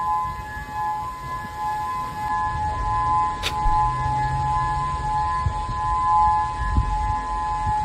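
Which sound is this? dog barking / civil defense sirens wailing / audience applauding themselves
civil defense sirens wailing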